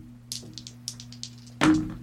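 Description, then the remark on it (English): Two dice are rolled in a tabletop game, rattling and tumbling in a quick series of light, bright clicks, ending in a louder clattering thud, over a steady low hum. “And then you're going to roll two more.”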